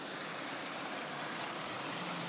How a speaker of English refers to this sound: Hi everyone, now listen to this rain.